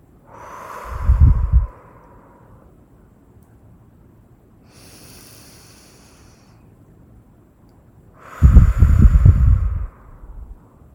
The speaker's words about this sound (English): Okay, start breathing in. Hold. And breathe out. And again, breathe in. Hold. And breathe out. We'll keep doing this a few more times.